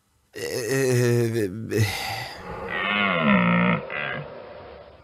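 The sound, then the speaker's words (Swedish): Deep, hoarse groaning calls of a fallow deer, loud, in about three drawn-out bellows, the last one long and wavering, with no talking. “Det är en dovhjort som du kör på.”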